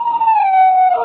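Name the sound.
wolf howling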